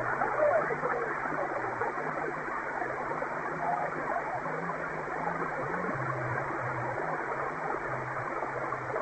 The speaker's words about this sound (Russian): У меня тут помеха идет, не очень хорошо всех принимаю